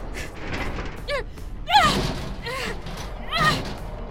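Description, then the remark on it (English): Two heavy, dull thuds land a couple of seconds apart, like a body slamming into a door to break through it, each paired with a strained vocal grunt against a noisy background. “Do you really think you're strong enough to break through that door?”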